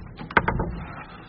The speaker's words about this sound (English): I closed the door and went back to my hutch.